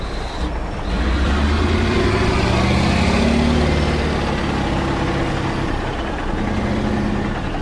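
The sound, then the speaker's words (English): A heavy diesel engine drones and rumbles steadily, with low growling tones that rise and shift, from giant haul trucks three stories high carting away coal at Bulga Coal Mine, an open pit mine in the Hunter Valley, Australia. No voices present. “Here, giant machines rip at the black ground, while trucks three stories high cart away tons of coal.”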